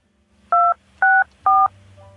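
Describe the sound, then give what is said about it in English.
Three telephone keypad tones, the keys 2-6-4 entered into an automated company directory, are pressed in a steady sequence, each a short dual-pitched beep lasting about a quarter second, loud and clear over a faint low hum. “There is no entry matching the keys you have entered.”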